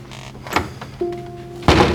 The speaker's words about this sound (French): Elle hoche la tête doucement, jette un dernier coup d'œil à sa classe, puis sort en refermant la porte.